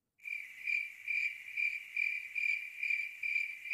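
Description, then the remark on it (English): A steady cricket chirping drones on alone, a bright continuous trill pulsing in a regular rhythm about twice per second, moderately loud. “I'm going to put crickets in there.”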